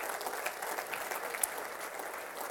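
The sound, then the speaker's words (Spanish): An audience at a church service applauds for Christ steadily, a dense wash of many hands clapping together at moderate volume, sustained evenly throughout with no voices standing out. “No, eso merece un grande aplauso a Cristo, hermano.”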